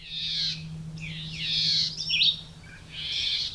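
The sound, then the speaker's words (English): A red-eyed vireo gives harsh, raspy scolding call notes, known as a shrad, in three or four buzzy bursts, fairly loud, with a steady low hum running underneath and no talking. “The vireos, when they scold, it's kind of a shrad.”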